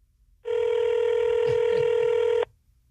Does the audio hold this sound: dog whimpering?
no